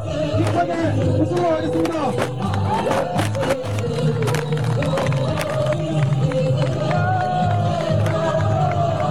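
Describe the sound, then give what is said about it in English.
A loud crowd of students stomps on and crushes a wooden tank at a protest against the U.S. military presence in Korea, with repeated sharp cracks and thuds breaking over constant shouting and cheering, and a low rhythmic drone underneath. “The students move forward and stomp on the wooden tank, crushing it.”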